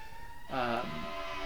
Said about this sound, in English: wait for the siren.